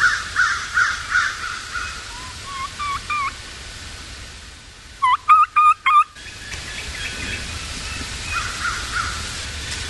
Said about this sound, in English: And this isn't a scattered bunch that's recalling. These are turkeys that are regrouping when they fly off the roost. Lots of vocalization in the fall.